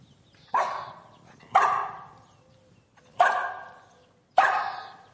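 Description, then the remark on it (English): A dog gives four friendly-sounding barks, fairly loud, spaced unevenly with short pauses between them. No one speaks. “We're going to start with two different barks. One is friendly and one is not.”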